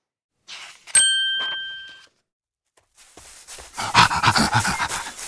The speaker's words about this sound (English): Daisy and Robin see a dog. Meow, meow, says Daisy. Woof, woof, says dog.